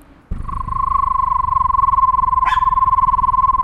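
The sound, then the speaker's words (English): A voice imitates a screech owl's trill: one steady, mid-pitched tone pulsing rapidly and evenly, held for over three seconds, with a brief breathy burst partway through. “What does the screech of a screech owl sound like? Can you describe it?”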